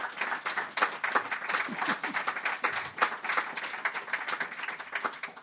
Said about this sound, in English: So a big hand of applause for our panel.